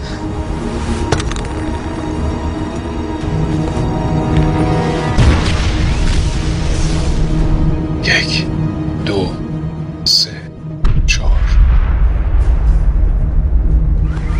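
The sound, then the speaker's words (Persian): A grenade, its pin pulled and thrown high from a balcony over a parking lot, explodes with a boom heard over a phone through dense, roaring noise, followed by a brief hush and another surge of heavy rumble, with indistinct voices mixed into the din. “میخوام که زامن رو بکشی بلند تا 3 بشماری و تا اونجا که میتونی بالا پرتش کنی. بعد سری برگرد تو اتاق، تلفن رو روشن نگه دار تا بتونم صدای انفجارش رو بشنوم.”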